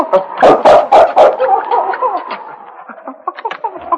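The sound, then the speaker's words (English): King, Sergeant Preston's dog, whines in high, wavering tones while scratching at a cabin door, with a quick burst of four loud scrapes at the start, then softer whimpering and occasional scratches. “He whined and scratched at the door.”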